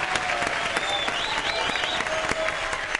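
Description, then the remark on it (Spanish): Audience applause fills the whole clip, a dense, steady wash of many hands clapping at an even loudness, with a few sharper individual claps and faint cheering whistles mixed in. “bien, ese es el aplauso.”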